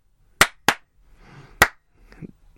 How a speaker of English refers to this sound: Stop clapping! I can't help it. Clap along at home, everyone. Even if you're driving.